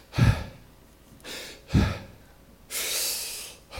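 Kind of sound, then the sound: vocal imitation, imitated heavy panting breaths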